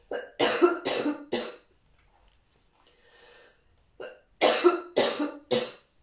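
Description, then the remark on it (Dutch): Two bursts of loud coughing, each a quick run of three or four harsh coughs, separated by a short pause with a faint breath in between. No speech. “Oh, ik moet even hoesten.”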